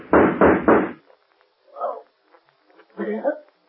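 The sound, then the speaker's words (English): Three loud, heavy knocks on a door in quick, even succession as a man gets out through the door, followed by two short muffled bursts of lower sound after a pause. “The door. He's getting out.”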